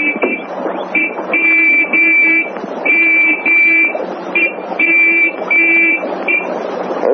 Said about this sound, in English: Well, I'd better put the sentry's mind at rest. The sergeant took his gold whistle from his pocket and spelled out an answer.